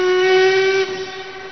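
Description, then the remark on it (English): A steam train's whistle blows a long, steady, shrill tone as the train departs from a station, loud at first and then dropping to a softer sustained note, with no voices. “Weren't we supposed to get that train? Was that the London train?”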